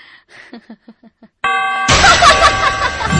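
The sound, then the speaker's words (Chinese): After a few soft, evenly spaced ticks or chuckles, a clock chime strikes midnight with a rich, ringing tone, then a woman's loud, frantic laughter bursts in over the lingering bell. “伴随着零点钟声的敲响，那女人突然发疯般的狂笑起来。”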